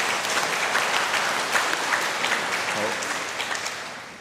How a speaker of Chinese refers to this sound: 我们不单止给掌声鼓励他们，也都用掌声感谢我们天父上帝。